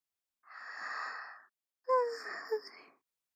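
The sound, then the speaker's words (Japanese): A baby's big, drawn-out yawn: a long breathy intake, a short pause, then a louder exhale that rises into a wavering, moan-like voiced tone before trailing off. No talking. “大きなあくび。”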